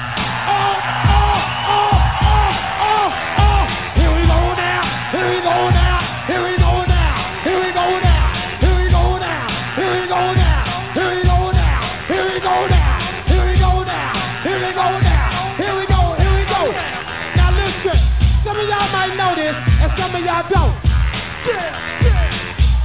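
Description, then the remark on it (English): A crowd at Bahama Bay in Philadelphia yells and whoops loudly and continuously, making noise on an MC's count of three, over a pounding, steady bass beat, the cheering rising and falling in waves throughout. “the count of three, I want everybody in the place to be to make some noise if you're down with me.”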